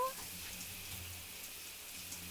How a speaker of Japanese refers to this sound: ほら早く、シャワーの音でよく聞こえないな。もう一回お願いします。